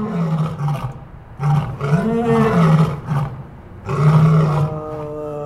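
A lion at the Lincoln Park Zoo in the Chicago area roars in a series of loud, throaty bursts, about four calls separated by brief pauses, with no voices present.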